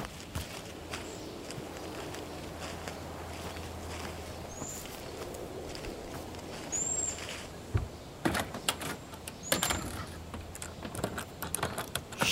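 Over a steady outdoor hush with a few faint bird chirps, someone rattles and jerks a locked door that won't open, producing a cluster of sharp clunks and knocks near the end.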